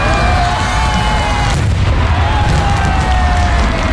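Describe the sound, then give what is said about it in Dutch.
A giant 460-kilogram firework shell, a world record as the heaviest firework ever, bursts in Japan with a deep, loud boom. A heavy rolling rumble and faint crackling linger for several seconds. “In Japan hebben ze een nieuw wereldrecord in handen, dat van het zwaarste vuurwerk ooit. Een raket van 460 kilo werd tot ontploffing gebracht.”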